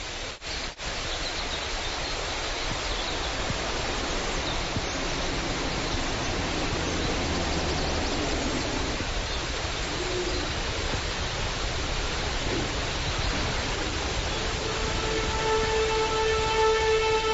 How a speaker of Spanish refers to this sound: Pajaritos, un río, una cascada y un sintetizador. El sintetizador lo pones tú, supongo. Sí, esto se grabó en directo en el lugar.